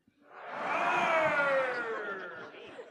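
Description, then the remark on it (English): On a count of three, with claws put up, an audience imitates a lion roar together. It swells into a loud, sustained, sliding group roar that lasts a couple of seconds before trailing off. “On the count of three, I want you to put up your claws and give me your best lion roar.”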